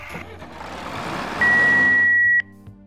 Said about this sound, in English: Doug is unavailable right now. If you be me lover, leave a message after the tractor.